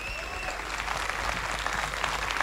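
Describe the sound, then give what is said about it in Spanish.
A large festival audience applauds steadily in memory of the late radio journalist Manuel Araneda, a dense, sustained wash of clapping at an even loudness from start to finish. A faint high tone is briefly audible at the beginning. “También solicito para Manuel Araneda, un hombre de radio también que trabajó tantos años, un fuerte aplauso en su memoria.”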